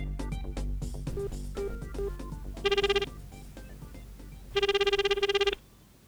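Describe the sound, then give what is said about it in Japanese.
A telephone rings on an outgoing call: two loud bursts of rapid, trilling electronic tone with a pause between them, over a faint musical backdrop. “そうだ、ヤマトも道連れにしてやる。電話電話。”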